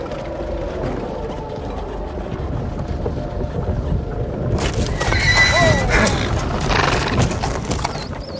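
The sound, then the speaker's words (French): A horse-drawn stagecoach rumbles and clatters to a halt on arriving at a castle, hooves and wheels over a steady windy noise, then a horse whinnies loudly in the second half. “Lorsque la diligence s'immobilise, je devine que nous sommes arrivés au château.”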